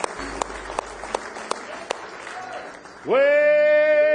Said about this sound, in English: Give Him one more hand clap of praise in the house of God tonight.